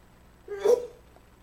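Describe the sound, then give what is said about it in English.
A single short sneeze, a brief voiced build-up followed by a sharp breathy burst, fairly quiet, with silence around it. “Bless you.”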